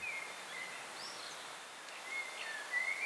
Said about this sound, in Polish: Tutaj mamy na przykład kosa, gwiżdże, 3000 Hz.